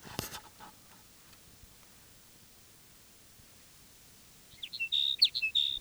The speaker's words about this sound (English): Here's sage sparrow number three. This is the one that was singing simultaneously with number two.